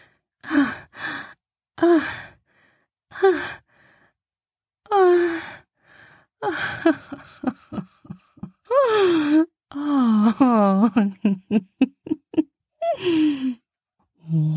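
A woman gasps for breath again and again, breathy, with voiced sighs between the gasps and a quick run of short, sharp intakes near the middle.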